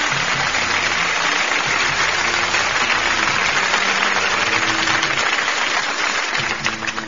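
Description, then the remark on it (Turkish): Sustained, dense applause from a crowd after a poem recital, steady and fairly loud for several seconds before tapering slightly at the end, with a faint low hum beneath the clapping. “Evet, şiir Menekşe Gülay dostlar, kocaman bir alkış.”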